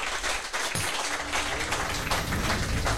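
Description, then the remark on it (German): A burst of applause for the sound engineer: many hands clapping in a dense, steady patter that holds at an even, fairly loud level for a few seconds, with no voices over it. “Kleiner Applaus hier erstmal für unseren Tontechniker.”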